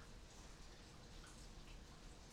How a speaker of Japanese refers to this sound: 雨、この前よりも降ってますね。ザーザーザーって。